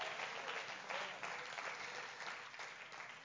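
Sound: audience clapping hands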